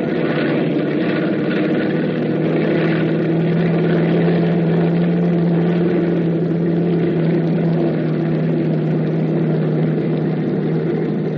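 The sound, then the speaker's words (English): Bomber plane engines run steadily before takeoff, a loud, continuous droning hum with a deep throbbing tone that holds unchanged throughout, filling the scene, with no voices. “It all starts to add up when the plane takes off.”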